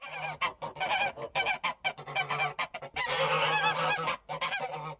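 Geese honk and cackle loudly in a rapid, overlapping chatter, with short bursts giving way to a sustained noisy stretch midway before the calls break up again.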